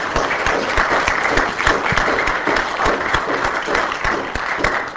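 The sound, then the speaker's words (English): A conference audience breaks into a sustained round of applause for the conference coordinator, many hands clapping in a dense, steady wash that holds at an even loudness for the whole stretch, with no voices standing out. “Let's give her a round of applause right now.”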